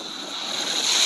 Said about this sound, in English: So the cop's walking up. It's kind of windy.